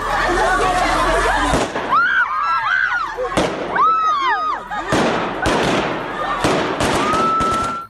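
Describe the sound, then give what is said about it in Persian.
Several sharp gunshot cracks ring out at irregular intervals as Taliban security forces fire into the air at a women's protest in Kabul, each one loud and sudden, while a crowd shouts and screams with rising and falling cries in between. “اعتراض شماری از زنان در کابل امروز با موترهای آبپاش و فایرهای هوایی نیروهای امنیتی طالبان مواجه شد.”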